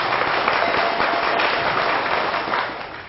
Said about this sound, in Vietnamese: Nếu quý vị đồng ý với cái đề xuất của tôi đó thì hãy dâng cao một tràng pháo tay thật lớn.